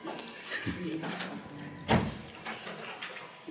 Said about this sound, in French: D'ailleurs, ferme la porte.